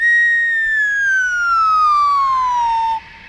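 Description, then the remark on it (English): A loud, steady falling whistle glides slowly downward in pitch for about three seconds, then cuts off abruptly, as a second car is pushed over the edge of a building and falls. “Now, car number two is pushed over the edge.”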